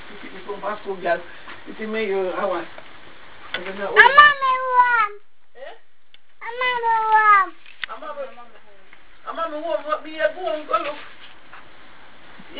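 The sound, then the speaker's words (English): A cat meows twice, drawn-out, rising-then-falling cries, with voices talking before, between and after the meows. “What a kitty.”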